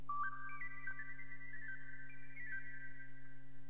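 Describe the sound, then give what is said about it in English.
A tiny recorder plays a high, breathy short melody of stepped, sustained notes that climb and then hover, with a faint steady hum underneath and no voices. “And the reed, on the other hand, by one of the highest, a tiny recorder.”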